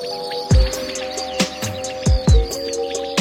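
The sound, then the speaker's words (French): Field crickets chirp in a steady, dense chorus while a common quail gives short, sharp calls in a few spaced bursts, fairly loud against the insect drone, in a rapeseed field area with a small meadow. “Et puis enfin, dans cette zone de colza avec une petite prairie, là, c'était très commun, la caille des blés. Et puis beaucoup de grillons aussi, les champs des grillons, ça prenait tout l'espace.”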